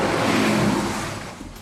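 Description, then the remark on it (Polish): A car speeds past with a loud, broad engine roar that is strongest at first and then gradually fades as it moves away. No one speaks. “Samochód bardzo szybko przejechał i z takim hukiem może trochę było słabo słychać”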